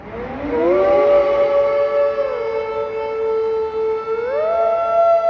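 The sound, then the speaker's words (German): A loud siren climbs into a long, sustained wail and shifts pitch near the end, with voices singing along underneath it the whole time. “Singen zu Sirenen.”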